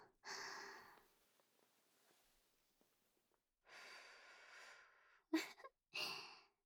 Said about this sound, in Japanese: 胸に吐息をかけられたら、ゾクッてしましたか？体がピクッて跳ねちゃいましたね。